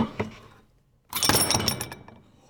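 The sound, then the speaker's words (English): The metal chain of an old pull-chain doorbell, about 4 feet high with a round metal handle, rattles briefly as it is pulled. After a short pause, its lead weight strikes a hard floor with a loud thud and a clattering, jingling rattle that rings out and fades. “With that hit to the floor, I mean, we're listening to the chain, but that hit to the floor, you'd immediately get it. Someone's at the door.”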